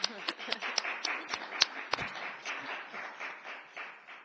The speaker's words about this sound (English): Congratulations. I think this committee deserves a really round of applause.